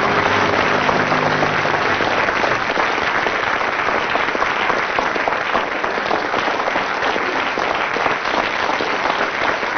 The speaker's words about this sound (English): Well, with 7 seconds of spontaneous applause from the audience there, Tim and Willie have scored quite a lot of points.